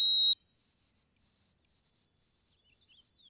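A white-throated sparrow sings pure, clear whistles: a lower opening note, then a higher held tone, followed by a steady series of repeated high whistled notes, with no voices.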